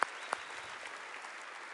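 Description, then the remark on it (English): An audience applauds and cheers in praise of God in a steady, dense wash of clapping, with two sharp bright bursts near the start, like a whoop or cheer, over the crowd noise. No one speaks. “can we give an exuberant cheer of praise and give God praise to everybody?”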